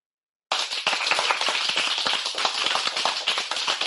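After a brief silence, a crowd breaks into steady applause, a dense wash of many hands clapping at once, loud and continuous to the end with no voices.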